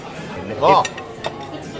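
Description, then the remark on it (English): Plates and cutlery clink as chips are served, a few bright knocks and scrapes in quick succession, with murmured voices and restaurant chatter underneath. “The chips have arrived.”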